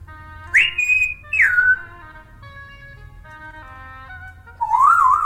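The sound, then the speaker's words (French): A parrot, one of several parrots kept at a home, whistles loudly in a few bright, sliding calls: a rising then falling whistle, a second descending one, and a warbling wavy whistle at the end, over a low steady hum with no talking. “Comme vous avez pu l'entendre ou comme vous allez pouvoir l'entendre, je suis entourée d'un certain nombre de becs crochus. Certains sont assez bruyants, d'autres plus calmes”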